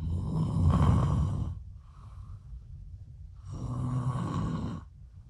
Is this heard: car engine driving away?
no